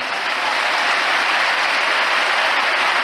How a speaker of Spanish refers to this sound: Los aplausos para Sergio Ramos, que volvió a pedir perdón.